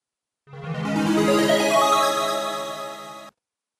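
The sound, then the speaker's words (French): A telephone rings once in a single steady electronic tone lasting about three seconds, fairly loud, then cuts off abruptly. No voices are heard during the ring. “Телефонный звонок. Coup de téléphone.”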